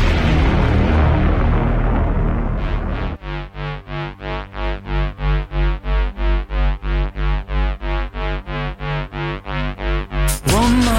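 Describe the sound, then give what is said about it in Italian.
A rumbling explosion-like blast fills the first few seconds, then a loud, steady train of rapid pulsing bursts like sound-effect gunfire runs evenly to an abrupt stop, with no talking. “La sirena e il botto e la sparatoria.”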